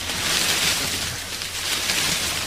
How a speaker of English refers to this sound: Sounds like you're in the sea now.